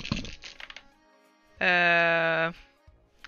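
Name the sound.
dice being rolled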